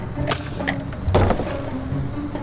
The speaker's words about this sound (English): So we have rigged up a special system where when we press this button, our door will open for us.